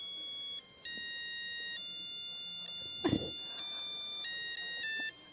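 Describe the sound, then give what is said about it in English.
An egg boiler plays its electronic signal melody for hard-boiled eggs, a steady run of bright, high beeping notes stepping up and down, with a brief clattering knock midway through. “And then here's a hard-boiled egg.”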